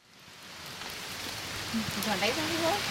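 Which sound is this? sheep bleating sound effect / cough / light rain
light rain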